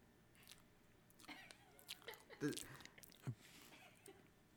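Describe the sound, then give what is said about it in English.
Chewing of marshmallows, with moist, squishy bites arriving in irregular bursts right up against the microphone, while faint voices murmur in the background. “Please get her to say hello instead of you chewing into the microphone.”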